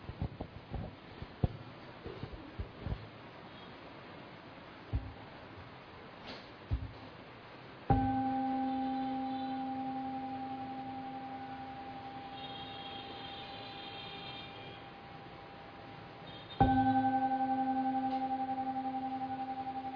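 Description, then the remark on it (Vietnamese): A temple bell at the Đại Bi Quan Âm monastery, rung to close a Dharma talk, is struck twice, about nine seconds apart. Each strike rings out loud with a rich, layered tone that slowly fades, after a few soft taps and rustles. “Bây giờ mời đại chúng nghe ba tiếng chuông để chúng ta kết thúc buổi pháp thoại ngày hôm nay.”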